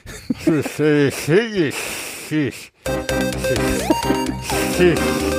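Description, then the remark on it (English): A voice mimics a snake with dentures, mixing wavering vocal sounds with sloppy, breathy hisses for about two and a half seconds. After a brief pause, music starts up. “A snake. It's a snake with dentures.”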